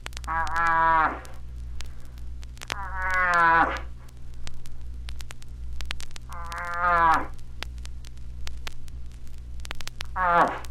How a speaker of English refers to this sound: When he approaches the place from where the call is made, it will be the bull moose in search of a cow moose cries this way.